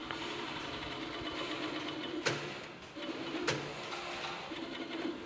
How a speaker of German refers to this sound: Das sieht jetzt erstmal so nicht überhaupt nach Schuhproduktion aus, weil hier so viele Nähmaschinen stehen. Ja, das Obermaterial wird halt genäht. Ne? Man nennt das hier Steppen.